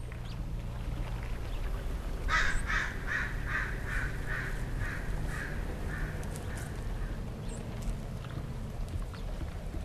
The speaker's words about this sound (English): Now, at Green Gulch, you might just let those bird songs flow in one ear and out the other. But not these birds. There you go. So keep keep watching. It's probably going to go right back on its nest. There's a person who loves that sound a whole lot.